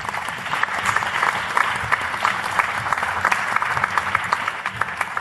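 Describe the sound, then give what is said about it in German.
An audience claps steadily for several seconds, a dense, even patter of many hands with no voices, holding a fairly constant loudness throughout. “Einmal bitte Applaus dafür.”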